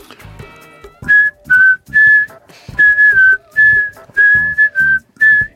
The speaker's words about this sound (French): Pourquoi vous sifflez comme ça en me regardant là ?